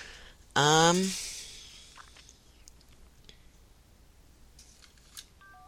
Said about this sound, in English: Whoops, I hit my phone. My, cordless phone over here.